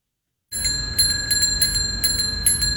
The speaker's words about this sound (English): Let's listen to this one, a bicycle bell, and how weird it would sound on Mars.